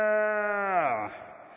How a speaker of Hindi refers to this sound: भैंस, एक गाय का बछड़ा है, भैंस की आवाज, क्या भैंस।